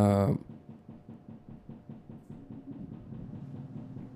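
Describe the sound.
A washing machine knocks with a steady run of dull, low thumps in a quick, even rhythm, continuing at moderate volume after a brief burst of voice at the very start.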